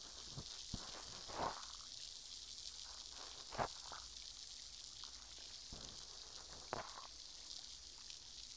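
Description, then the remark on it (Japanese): A soft, steady fizzing hiss of carbonated liquid on a carbonated cotton swab used for cleaning, broken by a few brief, louder crackling pops spaced a second or two apart. No one speaks. “とした感触と炭酸の音、気持ちいいですよね”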